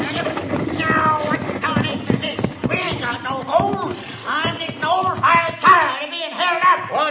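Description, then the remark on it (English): Horses' hooves clop steadily, then slow as the driver reins in the horses and a stagecoach comes to a halt, with voices and snorting mixed into the busy, fairly loud scene. “All right, driver, hold down on those horses. Whoa!”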